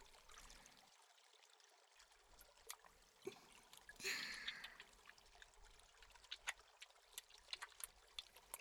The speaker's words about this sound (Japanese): では髪を濡らして洗っていきますね。